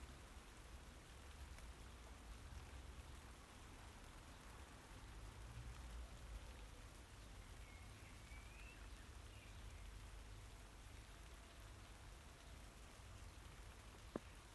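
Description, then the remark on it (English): Steady rain pours straight down on a calm day in a continuous, even hiss, with dense pattering drops on surfaces and no wind or voices breaking the constant wash of sound. “Strangely again, straight down rain on a calm day.”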